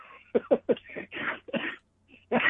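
A close, hacking coughing fit: three quick sharp coughs in a row, then a few rougher, drawn-out coughs with brief pauses between, loud and with no talking.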